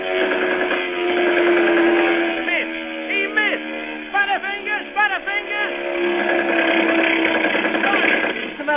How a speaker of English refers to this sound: again, the German Junkers dive. But this time, it is not a ship they aim for. Their target is a group of defenseless, oil-blackened men clinging desperately to a tiny raft. Now the planes circle and come roaring in for the kill.